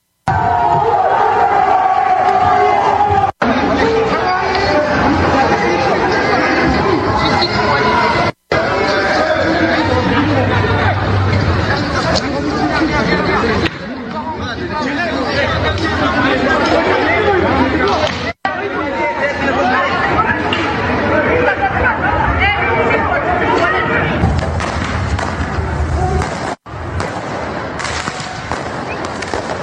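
A loud, dense crowd of rioters in France shouts and chatters in an unruly uproar while the fireworks they use to burn down a police station pop and crackle throughout, the din broken by several abrupt cuts.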